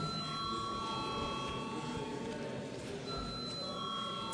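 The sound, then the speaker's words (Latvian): A steady electronic bell rings continuously in a parliament to call a vote on a bill, a bright sustained tone held for several seconds over a low murmur of room noise. “Paldies, lūdzu zvanu.”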